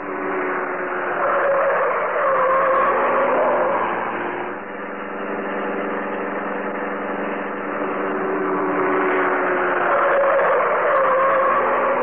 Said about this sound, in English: A glittering black comet in the darkness, the car of the Green Hornet whipped through the city streets